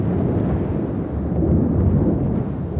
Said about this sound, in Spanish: En el cruce de miradas, al relámpago le siguió el trueno.